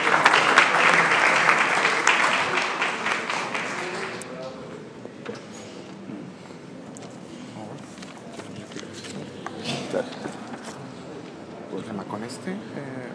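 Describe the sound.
A burst of audience applause, dense and bright, fades after about four seconds into quieter scattered clapping, shuffling and murmuring voices.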